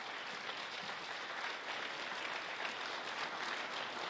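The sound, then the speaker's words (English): A crowd applauds a speaker after a lesson, clapping steadily for about four seconds, a dense, even wash of many hands at a constant moderate level with no voices standing out. “Let's give him another applause.”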